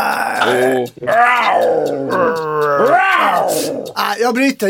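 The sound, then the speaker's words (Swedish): A voice imitates a lion roaring: a few loud, drawn-out groaning roars that rise and fall in pitch, with brief breaks between them and no other sounds. “Det är lejonet som man kallar för djungens konung.”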